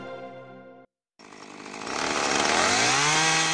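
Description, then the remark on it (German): A loud chainsaw idles with a steady buzzing drone, cuts out briefly, then revs up hard and bites into wood, its pitch dropping and straining as it cuts through the trunk of a giant Amazon rainforest tree. “Eine Kettensäge frisst sich durch den Stamm eines Amazonasriesen.”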